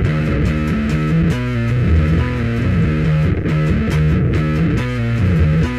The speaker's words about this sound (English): So it's a bass being played that's distorted.